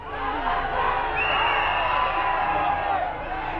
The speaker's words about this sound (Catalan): A fora esclata una cridòria eixordadora.